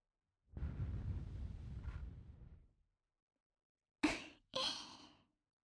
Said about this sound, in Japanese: まずは優しく吐息から。